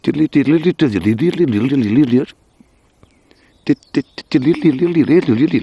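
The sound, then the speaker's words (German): A voice whistles an imitation of a dunnock's song, a quick, warbling birdlike melody, wavering rapidly up and down, in two bursts separated by a pause with a few sharp clicks. “Es ist so leicht fisselig, melodisch, schnell. Ungefähr so.”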